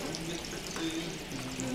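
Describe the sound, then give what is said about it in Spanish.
Cold water pours steadily over a person washing, a continuous splashing wash of liquid lasting under two seconds, with faint voice-like tones underneath. “¡Qué agua tan fría!”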